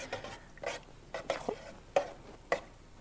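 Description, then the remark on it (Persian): A utensil scrapes and clinks against a metal pot in a slow, irregular stirring rhythm, about six short strokes, moderately loud, with a faint sizzle underneath and no talking, as butter and oil are heated in the pot until slightly melted for making halva. “کره و روغن رو حرارت میذاریم به قدری که یکم آب بشه که آردمون گلوله نشه، راحت تر هم بخوره.”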